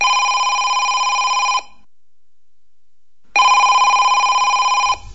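A telephone rings twice, each ring a loud, steady electronic trill lasting about a second and a half, separated by a clear pause of silence, with no talking.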